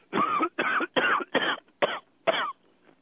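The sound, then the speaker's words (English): A loud fit of six harsh coughs in quick succession after smoking a bowlful of pot, each a rough burst with brief pauses between, tapering at the end with no talking. “One of the things I would tell kids is if you do a bowlful and you cough, you're done. Coughing generally means you're done.”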